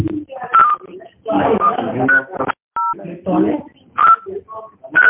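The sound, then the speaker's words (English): Telephone keypad dialing tones beep several times at an uneven pace, one clear dual-tone beep standing alone, while people talk loudly over most of the others, as someone dials to call back from a better line. “Sir, I'm calling you from a better line. Just wait.”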